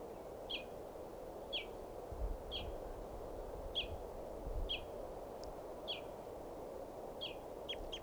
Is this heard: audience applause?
no